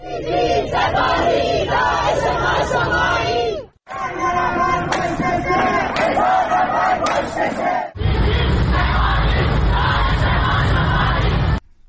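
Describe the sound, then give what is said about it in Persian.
A large protest crowd chants slogans loudly in unison at a Monday-evening rally in Ekbatan township, Tehran, Iran, where fires were lit in protest at the executions of Mohsen Shekari and Majid Reza Rahnavard; the massed voices rise and fall in rhythm across three sustained bursts separated by brief breaks. “در شهرک اکباتان جمعی از مردم در اعتراض به اعدام محسن شکاری در تهران و مجید رضا رهنورد در مشهد در محوطه این شهرک اقدام به روشن کردن آتش و برپایی تجمع اعتراضی کردند.”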